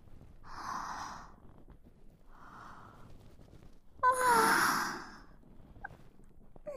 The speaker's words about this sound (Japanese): またあくび。